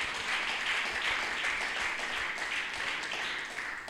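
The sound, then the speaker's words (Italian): An audience applauds in praise of Jesus Christ, many hands clapping together in a dense, continuous wash of sound that holds at a fairly even level before easing slightly at the end. “Colui che battezza con lo Spirito Santo e col fuoco è Gesù Cristo, che vogliamo applaudire e lodare.”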